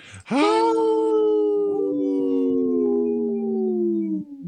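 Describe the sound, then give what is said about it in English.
Wolves howl together, three long, sustained, gliding howls that overlap and slowly fall in pitch, loud, lasting several seconds with no talking. “Yeah, I could hear three howls.”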